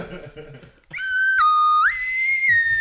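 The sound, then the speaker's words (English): A brief voice gives way to a loud slide whistle that holds a bright tone, dips, then glides upward and wavers for about two seconds, giving an eerie, spacey, sci-fi effect in the style of a Doctor Who sound. “That was my most Doctor Who-y sort of sound I could make for you.”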